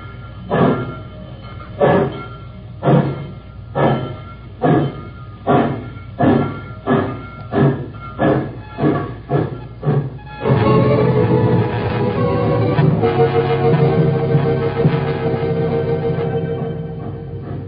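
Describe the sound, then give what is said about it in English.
A steam train pulls out of a station in the rain, its heavy chuffs starting slow and quickening steadily before blending into a loud, continuous rolling roar of the moving train. “The train pulled out, and the tall girl and her teacher waited in the rain for the Jim Crow coach.”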